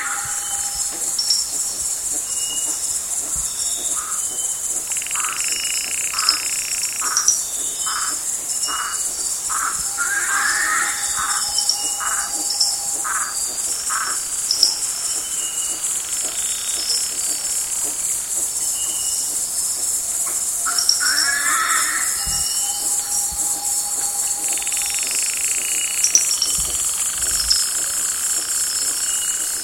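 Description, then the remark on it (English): A dense night rainforest chorus in the Marotandrano Special Reserve, Madagascar: constant shrill insect buzzing with frogs calling in repeated pulsing bursts, plus occasional louder owl and lemur calls rising out of the steady din. No one speaks. “In the still of the night, frogs, owls, and lemurs were anything but quiet as Daniel Grossman recorded their sounds in the Marotandrano Special Reserve.”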